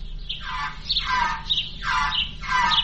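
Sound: bird squawking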